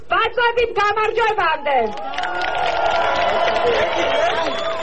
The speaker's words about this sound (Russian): И в ответ вновь гул одобрения и аплодисментов.